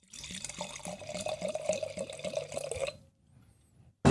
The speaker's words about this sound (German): Zum Glück gibt es hier noch so eine Ersatzflasche Riesling vom Weingut Mattis. Hast du hier nicht zum ersten Mal gehört, läuft auf jeden Fall runter und deswegen in deinem Beisein Schraubverschluss auf, stilecht. Ab ins Glas, der Gerät.